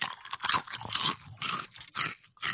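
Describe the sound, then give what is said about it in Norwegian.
Loud crunching of Pottegull potato chips being chewed right against the microphone, a rapid series of crisp bites and chews in irregular bursts with brief pauses, no talking. “Jeg spiser litt pottegull. Jeg tygger inn i mikken, bare sånn du skal få straff.”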